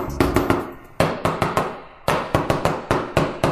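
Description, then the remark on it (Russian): A drum roll beaten on a cardboard box: a rapid run of sharp, dry, hollow thumps in an uneven rhythm, with a few heavier hits standing out. No voices. “и вдруг открывается дверь барабанная. Дробь. Причем барабанная по картонной коробке, да, такой.”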